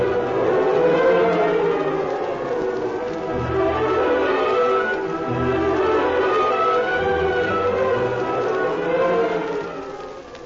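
A train rumbles steadily for about ten seconds, a loud, dense mechanical roar layered with sustained whistle-like tones that shift slightly in pitch, with no voices.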